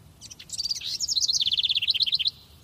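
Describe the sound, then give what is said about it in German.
A bird sings a quick, bright song of rapid high chirps and trills, rising into a fast twittering run for about two seconds, clear with no voices. “Die Vögel waren meistens auch schon wach und tauschten sich mit mächtigem Gezwitscher die Neuigkeiten aus.”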